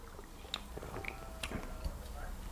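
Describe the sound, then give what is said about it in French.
Quiet mouth sounds of someone sipping hot coffee, with a few soft slurps and clicks spread across a couple of seconds, and no talking. “On va prendre une petite gorgée.”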